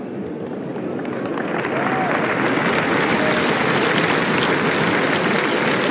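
A crowd at Roland Garros applauds steadily for Anastasia Pavlyuchenkova after she qualified for the quarterfinals, a dense wash of clapping that holds loud and even from start to finish, with no voices standing out above it.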